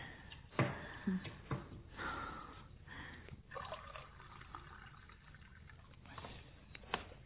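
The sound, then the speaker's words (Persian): Cold water from the fridge pours into a glass in a kitchen in a steady trickle, with a few sharp clinks and knocks scattered through it. No one speaks. “آب خنک یخچال داریم؟ آره، بذار الان بهت میدم.”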